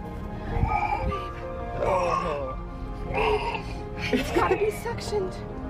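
A newborn baby, just delivered and breathing fine, cries in four short, wavering bursts, each about a second long, high-pitched and strained, with brief pauses between them over a steady low hum.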